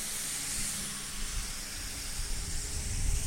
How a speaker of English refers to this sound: And I'm still walking. Crossing some streets here. You're going to hear some loud noise of the truck going by.